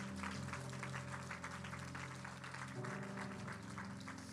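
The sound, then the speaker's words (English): A church audience claps steadily for several seconds for a speaker who has just shared a message, a dense wash of overlapping hand claps with a faint tonal hum underneath and no one speaking. “Can we give David another hand clap for that?”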